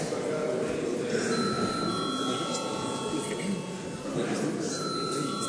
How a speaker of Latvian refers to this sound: Tātad ir pienācis laiks reģistrācijai. Lūdzu zvanu.